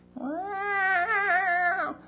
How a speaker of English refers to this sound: Long, loud meows. Wherever I went, and I used to say, quiet, be quiet, everyone's sleeping. And the more I did that, the louder he got, and the more insistent he got, until he got that breakfast.